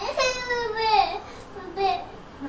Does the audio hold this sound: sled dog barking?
no